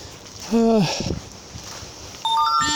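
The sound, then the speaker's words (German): A bright mobile phone notification chime of a few quick rising electronic tones, signalling that the phone has found a new Wi-Fi network while its owner walks along, sounds near the end, after a brief low humming vocal sound and quiet background rustle. “Mann, was bimmelt hier dauernd? Ich muss mein Handy umstellen. Der gibt immer Zeichen, wenn er ein WLAN findet.”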